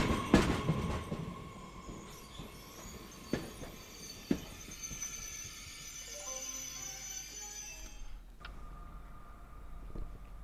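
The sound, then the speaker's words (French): The Galaxy Express 99.9 train, its doors closing automatically, pulls away along the rails bound for the planet Rametal, opening with a few sharp metallic clanks and knocks, then steady rumbling and a long high squeal of wheels that fades before a final clank. “Le Galaxy Express 99.9 va reprendre sa route à destination de la planète Rametal.”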